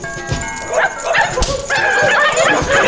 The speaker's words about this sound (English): The legendary dog sled musher Leonard Sepala in a sled pulled by 8 Alaskan Huskies.